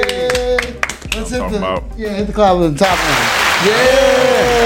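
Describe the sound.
Voices talk over a musical bed, then a burst of steady, dense clapping sweeps in to welcome a comedian guest and holds for the last couple of seconds, with a voice still sounding through it.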